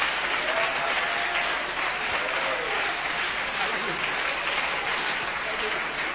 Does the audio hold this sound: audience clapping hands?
yes